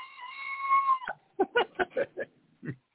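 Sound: goat bleating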